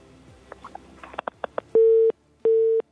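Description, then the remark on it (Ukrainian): A caller's phone line dropping during a live call-in broadcast on Radio Maria: a few faint clicks and line noise, then two loud, steady electronic tone beeps, each about a third of a second, separated by a short silence. “Так, на жаль, телефонний дзвіночок у нас пропав, але нічого.”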